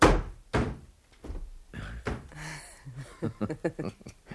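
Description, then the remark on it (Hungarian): A door slams shut with a loud, sharp bang, quickly followed by a second thump, then people talk and chuckle. “23 éve mondom, hogy ne csapkodják az ajtókat, és ne forgassák össze az újságokat.”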